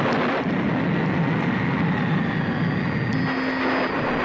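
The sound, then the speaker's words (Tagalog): A loud, steady roar of strong wind fills the whole stretch, a dense rushing storm noise with no pauses and no voices, holding at a constant level throughout. “Biglang ang ihip ng hangin ay lumakas.”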